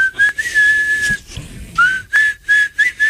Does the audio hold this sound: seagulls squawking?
no